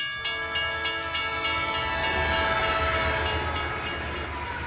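A train rolls in with a sustained, droning horn over steady, rhythmic clacking of wheels on the rails and a low rumble, fairly loud, with no voices.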